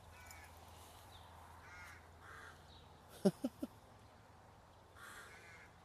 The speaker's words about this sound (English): It's not at all a nice sound, is it? A crow cawing like that.